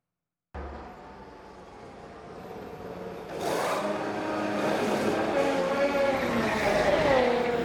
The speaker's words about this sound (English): when everyone does their job on the pit crew with purpose and passion, I want you to see real quick what it looks like and how quickly they can get this car in and out of pit row.